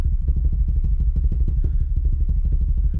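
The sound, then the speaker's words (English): A steady, rapid drum roll with a deep, rumbling low end, its quick strokes blurring into a continuous fluttering rattle at an even loudness throughout, with no voices over it. “Give you a drum roll again.”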